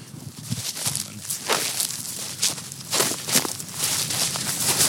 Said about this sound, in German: Man hört es, dass eben das Rascheln der trockenen Gräser